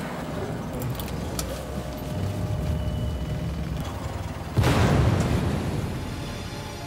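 After a few seconds of low, steady rumbling, a sudden explosion booms out and its roar slowly fades over the remaining seconds; an explosion in St. Louis on January 14, 1980, whose smoke was visible from a nearby doctor's office window.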